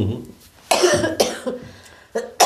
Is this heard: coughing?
yes